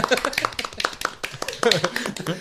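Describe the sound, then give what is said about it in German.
A quick, uneven run of sharp hand claps, fairly loud, with a few brief chirpy squeaks mixed in and voices talking underneath. “Und, okay, sorry, das Klatschen hat sich erst angehört wie so Vögel.”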